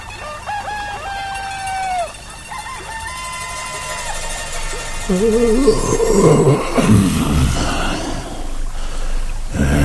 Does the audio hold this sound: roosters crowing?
yes